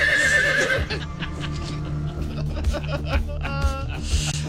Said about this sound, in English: Well, I'm sorry, I got a horse here.